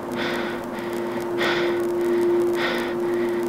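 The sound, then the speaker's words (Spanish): Slow, audible breathing of a silent person on a phone call repeats about three times in an even rhythm, fairly loud over a steady electrical hum of the open line, with no one speaking, before the caller hangs up. “No hubo respuesta, solo su respiración.”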